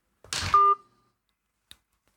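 telephone call tone

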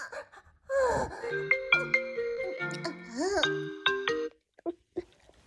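phone call ringing

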